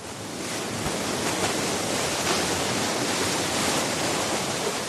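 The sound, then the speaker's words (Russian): Steady, loud churning of water as the paddle wheel blades of a boat, driven by an engine belching brown smoke from its funnel, beat the surface, with a dense rushing spray and faint splashes throughout. No voices. “Резво и как-то даже игриво бьют по воде плицы.”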